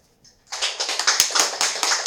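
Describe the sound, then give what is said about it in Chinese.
Audience applause, warmly welcoming a teacher to speak on the Dharma, bursts in after a brief quiet moment and keeps going steadily, a dense wash of many hands clapping at once with a crisp, bright texture and no voices. “我们 热烈的掌声欢迎上司为我们说法。”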